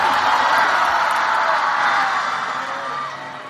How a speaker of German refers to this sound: jetzt könnte so ein Jubel von deinem Soundboard kommen oder so.